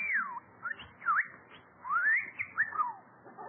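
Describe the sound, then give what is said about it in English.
Bertie, a talking bird, whistles a quick run of sliding notes, some swooping down, others rising, in short bursts with brief gaps and no talking over it. “Say, you're a smart bird.”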